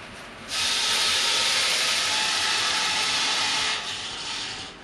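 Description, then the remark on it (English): An immense steam power plant engine lets out a loud, steady rush of hissing steam that surges in after a moment, holds for about three seconds, then eases back. No one speaks. “An immense steam power plant thumping away.”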